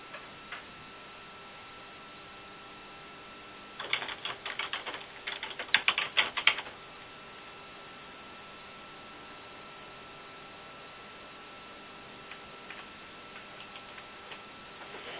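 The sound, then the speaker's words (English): A burst of rapid, clacky keystrokes on a computer keyboard lasts about three seconds, standing out sharply against an otherwise quiet background with a faint steady hum. “Someone has a very loud keyboard.”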